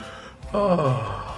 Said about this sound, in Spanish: Hasta el padre bosteza, no, para que haya un... Bueno, es que ese es un símbolo. Son efectos especiales. Sí, efectos especiales en radio.